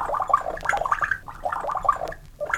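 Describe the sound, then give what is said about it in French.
On command, a voice imitates a drink being poured, producing bubbly, gurgling glugs in two quick runs separated by a brief pause, fairly loud and with no speech. “Verse à boire.”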